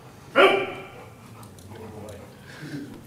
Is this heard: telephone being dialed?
no